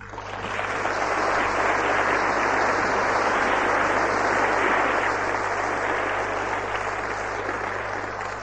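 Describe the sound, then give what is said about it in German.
An audience claps steadily at the start of a speech, a dense, sustained wash of many hands at an even loudness that carries on for several seconds before tapering slightly at the end, with no speech. “Die Worte waren zu viel und ich danke Ihnen sehr für den Applaus zu Beginn.”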